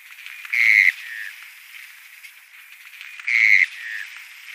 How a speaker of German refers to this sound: Deswegen habe ich sie gerne mit reingenommen und wir hören uns nochmal den Mornell-Regenpfeifer an.